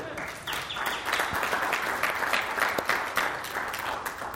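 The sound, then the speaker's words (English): A church audience applauds its lead pastor on his first year, dense overlapping claps forming a continuous wash of sound that holds fairly even for several seconds after a quieter start. “And I thank you, and I thank you for clapping, and I want to thank you as well for being a church that has been a joy to shepherd in this year.”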